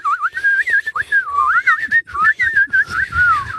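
whistling

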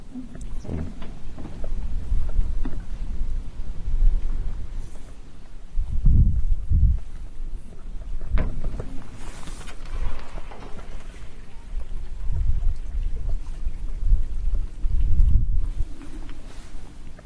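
splashing water

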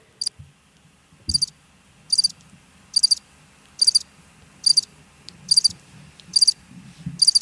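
crickets chirping

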